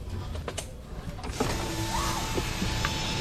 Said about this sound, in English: A few cars idle in line at this drive-thru off Highway 99.